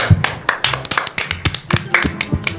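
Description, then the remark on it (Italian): Scattered applause from a small group for Club Med, a run of sharp, uneven hand claps rather than a dense roar, moderately loud, with no voices over it. “E per fortuna che c'è il club med che salva tutti, applauso!”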